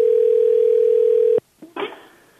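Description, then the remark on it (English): A steady, loud telephone dial tone drones for about a second and a half after a hang-up, then cuts off abruptly, followed by a brief faint voice-like sound. “She hung up on me.”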